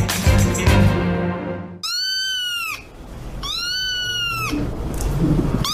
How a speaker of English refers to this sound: I think that's a kitten. Yeah. It sounds like a baby seagull for me. Yeah, it did actually. I thought that. I was like, it could be.